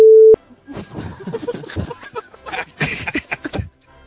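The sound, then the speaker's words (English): A short, loud electronic telephone tone sounds once at the very start, then cuts off as people begin chuckling and talking. “when I'm relaxing, I like to listen to a phone going off in the background.”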